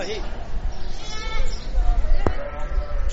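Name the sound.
sheep bleating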